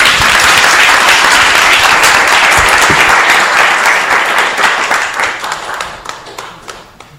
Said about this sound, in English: And by the way, let's welcome all the guests who have joined us on the internet tonight by saying Hare Krishna. Hare Krishna! And clapping too.